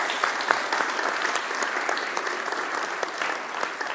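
An audience at a German-language church service applauds the decoration team steadily, many hands clapping in a dense, even patter with scattered sharper claps standing out, holding at a moderate level throughout with no voices on top.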